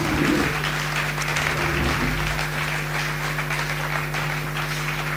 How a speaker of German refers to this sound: Euer Applaus. Ja, danke.